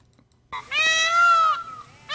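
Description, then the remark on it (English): A loud peacock scream, filmed with a camera from a distance: one long, high, piercing wail rich in harmonics that rises slightly and holds before trailing off, with the start of a second cry cut off at the end. “Peacock noise. Scream.”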